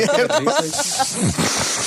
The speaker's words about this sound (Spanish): Además, ¿escucharon eso? ¿Escucharon esa sorbida de mocos? Sí. Sorbió moco.